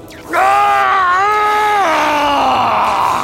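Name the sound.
man screaming in rage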